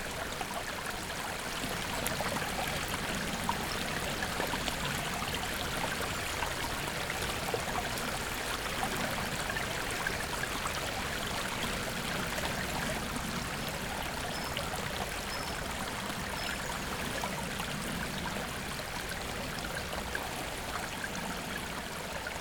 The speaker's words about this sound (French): quand il y a des crues, là, on l'entend très fort, vraiment très fort. Et c'est très impressionnant, justement. Parce que ça fait rouler les rochers, ça transporte des arbres. Enfin, une rivière en crue, c'est vraiment très impressionnant.